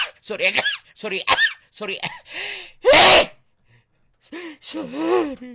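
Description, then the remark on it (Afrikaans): A single loud, sharp sneeze bursts out midway, preceded by quick breathy vocal sounds and followed by a brief pause before a voice resumes. “Sorry, dit was niesies.”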